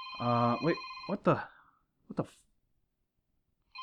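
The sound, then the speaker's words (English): A telephone rings with a call to a show, a steady, high electronic tone for about a second, overlapped by a voice, followed by brief vocal sounds and then quiet. “there's a phone down here. Hang on, let's answer this.”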